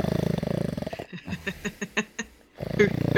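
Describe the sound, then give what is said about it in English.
A person imitates the loud snoring of sleeping grandparents, with a long rasping, throaty drone, a run of quick snorting puffs, then another rattling inhale. Fairly loud, with no other talk. “And anyway, they were snoring, and I was on the couch, and I got up, and I looked in, and I crept up and looked in, and I could hear this.”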